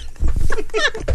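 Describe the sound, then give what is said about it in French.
A person's voice mimics a dog with a quick run of short, yelping bark-like sounds, fairly loud, lasting only about a second. “C'est plus clair. Parle mieux le chien.”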